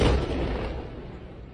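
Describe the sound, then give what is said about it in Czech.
A heavy explosion from explosives placed inside bursts out from below, with no rocket involved. A deep low rumble then rolls on and slowly fades over the next second and a half, with no voices. “Vy jste si nemysleli, že to udělali nějakou raketkou. Ne. To jde dole, ten výbuch.”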